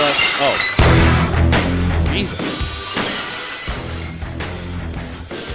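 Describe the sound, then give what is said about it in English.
A loud, sharp glass-shattering crash bursts out near the start of a WWE entrance intro, followed by driving, heavy music with more crashing hits. A voice briefly exclaims over it. “Bursting through the glass.”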